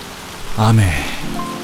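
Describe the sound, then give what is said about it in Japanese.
Heavy rain pours down steadily onto the ground at street level outside a subway station in a dense hiss, with a brief voice-like sound rising over it partway through before the downpour carries on alone. “雨の粒は我先にと地面を濡らし、水の集合体となって暴力的な音を立てる。”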